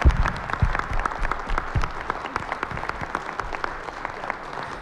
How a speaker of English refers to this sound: And so I'd like to give a round of applause.